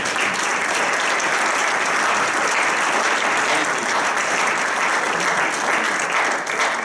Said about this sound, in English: Before I pray, can we just give a clap offering to God?